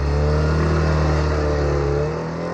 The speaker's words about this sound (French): la Trabi est en effet reconnaissable entre toutes les voitures à son moteur à explosion pétaradant